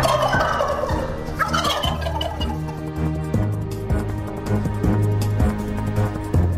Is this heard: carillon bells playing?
no